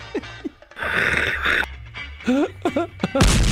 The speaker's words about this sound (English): Oh, there goes another Jody Mack Sig Cannon.